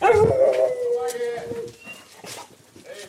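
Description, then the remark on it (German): A dog whimpers with a drawn-out, high whine, then lets out a few softer barks and yelps as the sound trails off. “Nee, leider für dich ist nichts dabei, lieber Hund.”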